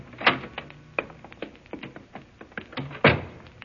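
door opening and closing

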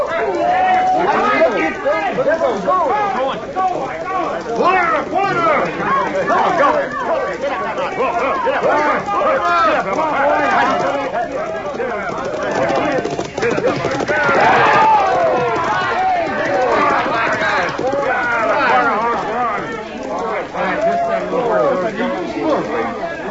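horses galloping

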